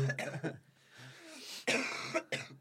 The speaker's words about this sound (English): I'm going to cough. It sounds like I'm going to cry.